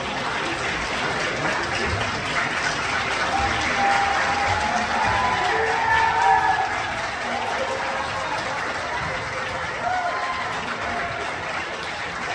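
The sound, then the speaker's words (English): Sustained applause and cheering from Arizona lawmakers in a legislative chamber, with dense clapping and scattered voices calling out, steady and loud for about twelve seconds, as they cheer blocking any debate on an 1864 abortion law. “There they are cheering that there isn't even going to be a conversation about what to do about this 1864 law, if anything.”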